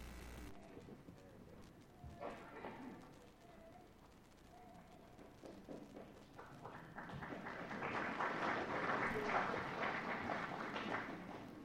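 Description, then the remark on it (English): An audience breaks into applause: scattered claps at first, swelling into a dense, steady patter of many hands that grows louder and continues to the end, with no one speaking. “I couldn't tell if you were applauding Patrick or that I got up here.”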